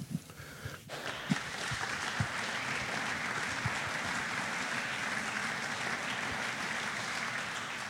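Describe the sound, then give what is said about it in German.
An audience breaks into applause after a brief moment, the clapping swelling quickly into a steady, dense wash of many hands that holds at an even level to the end. “Total berechtigter Applaus, und zum Thema Corona kommen wir noch.”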